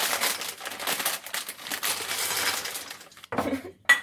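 Recipe ingredients (butter, chocolate chips, sweetened condensed milk and hundreds and thousands) rattle and patter steadily into a large microwave-safe bowl for about three seconds, followed by a short pause and a couple of softer clinks as the last bits are tipped in.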